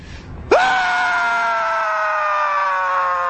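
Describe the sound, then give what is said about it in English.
A man screams at a protest in Austin, a loud scream that jumps up in pitch and is held steadily for about three seconds without a break, after a brief murmur of background noise. “In Austin, our own Owen Schroyer screamed for longer than the actual protesters”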